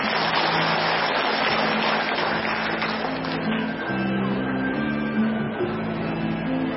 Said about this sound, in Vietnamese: Tặng cho quý vị một cái bài thơ Ngồi Buồn Nhớ Mẹ Ta Xưa, cho bằng tràng pháo tay.